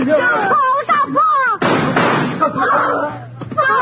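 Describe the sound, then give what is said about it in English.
A single loud gunshot cracks out sharply, its harsh noisy burst trailing off over a moment, between agitated shouting voices before and after, as a man is shot during a car robbery. “He shot my Pa.”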